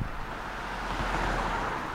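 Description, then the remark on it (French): Two cars, a Scénic and a Corsa, pass one right after another on a village road, their tyres and engines blending into a steady, fairly loud rush of road noise with a low rumble underneath. No one speaks. “Bon, y a deux voitures qui se suivent, ça, à mon avis, c'est un phénomène.”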